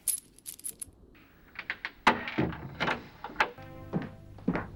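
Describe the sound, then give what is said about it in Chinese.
Uneven footsteps thud on old wooden floorboards as someone walks upstairs in the dark, with sharp knocks and a drawn-out creak of timber partway through, and no voices. “在黑暗中走上楼去，陈旧的木地板上发出刺耳的响声。”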